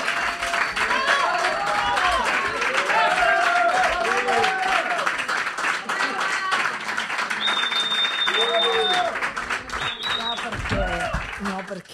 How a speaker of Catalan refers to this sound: Ja? Ja està? Estàs amb els teus aplaudiments? Ja estàs cofoia?